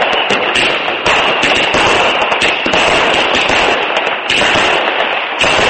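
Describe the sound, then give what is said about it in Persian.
Fireworks crackle and pop in a dense, continuous barrage at a New Year celebration in Taipei, Taiwan, where a large dragon was made from fireworks, with rapid overlapping bangs and a few heavier thuds, loud and unbroken throughout without any voices. “در تایپه پایتخت تایوان از مواد آتشبازی یک اژدهای بزرگ ساخته شده بود.”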